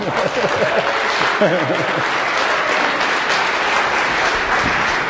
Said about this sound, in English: Let's particularly give them a big round of applause because I'm given to understand not only is this their first presentation, but they really kicked butt, don't you think?